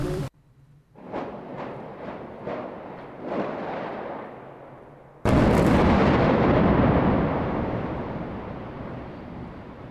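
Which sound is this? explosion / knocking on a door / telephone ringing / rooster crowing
explosion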